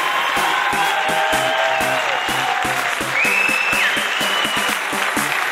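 A crowd applauds loudly and steadily, with a few sharp whistles and cheers rising above the clapping and a regular thumping beat running underneath.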